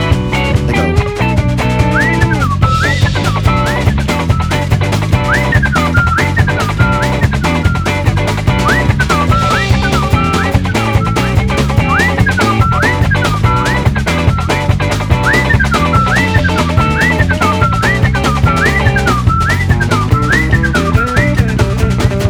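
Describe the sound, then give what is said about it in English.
Someone whistles an imitation of birds twittering: short, high chirping swoops repeat every second or so in a steady pattern over a full, busy musical backing, with no talking. “But the birds are twittering outside just like this.”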